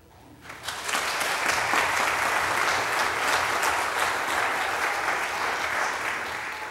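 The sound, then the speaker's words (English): An audience at a United Church of Christ (UCC) church bursts into steady applause after a brief quiet moment, a dense, sustained clatter of many hands clapping at an even loudness for several seconds, with no voices standing out. “The UCC was the first denomination to ordain a woman, to ordain someone who was openly gay, and to advocate for same-sex marriage equality, and I think that deserves some applause.”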